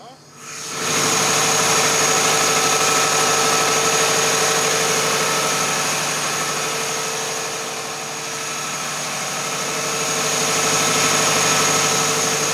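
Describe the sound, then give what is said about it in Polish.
A loud engine drones steadily inside a container that houses an engine and a generator. After a brief quiet start, a door is opened and its constant hum and high whine come through, with a slight dip in level midway. “Ja na chwilę pozwolę sobie go otworzyć, te drzwi, ale tylko naprawdę na chwilę, żeby było słychać, jak głośno chodzi silnik wewnątrz tego kontenera.”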